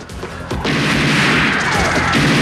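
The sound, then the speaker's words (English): Loud bursts of gunfire as guards shoot across a studio at Richards and his team, erupting after a short, quieter opening, with rapid repeated shots cracking over a dense, roaring wall of noise that continues to the end. No one speaks. “Guards shoot at them from across the studio.”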